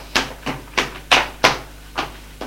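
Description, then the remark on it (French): Seven sharp knocks by a maid on a wooden bedroom door, fairly loud, coming in a loose, uneven rhythm with brief pauses between them. No one speaks. “Frappe à la porte de la chambre de madame.”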